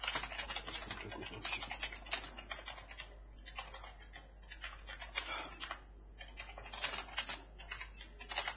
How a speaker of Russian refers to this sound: Печатаю? Компромат печатаю. Палки-палки, что я там печатаю? Компромат.